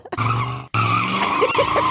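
Car tires skid with a loud, sustained squeal that cuts out briefly and then starts again, two screeching bursts with engine noise underneath and no voices.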